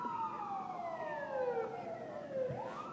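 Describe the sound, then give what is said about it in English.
A police siren wails with a long falling then rising tone, loud as the police car passes along a street over a steady hum of traffic. “More cop the cars.”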